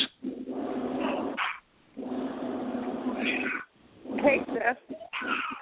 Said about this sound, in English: What the hell is that? Oh, my goodness. Some fucking body dog. Sound like that little Chihuahua Mexican Taco Bell dog.